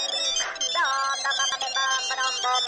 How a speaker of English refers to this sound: Oh, cell phone ringing, obviously, right? And other such sounds.